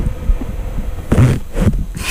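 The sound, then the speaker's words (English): A soft, marshmallow-like squishy toy is pushed in and flattened, letting out short, low, sputtering fart-like noises in two or three quick bursts over a faint steady hum. “Makes a little farting noise.”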